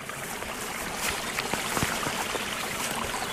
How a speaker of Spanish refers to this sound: Bueno, estamos al lado de un riachuelillo